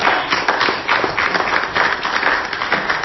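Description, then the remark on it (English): An audience claps steadily as a hand clap of praise to God, many hands overlapping into a dense, continuous crackle of applause that holds an even loudness throughout without pause, with no voices heard. “Come on, let's give God a hand clap of praise on tonight.”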